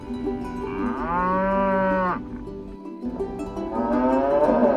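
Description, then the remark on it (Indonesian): Two long, loud cow moos sound at Dumble Farm in East Yorkshire, England, where visitors cuddle cows. The first is a sustained bellow lasting about a second, and the second rises near the end, with a low rumble of farm background between them. “Sebuah peternakan di East Yorkshire menawarkan pengalaman relaksasi baru yang tiada duanya, yaitu memeluk sapi.”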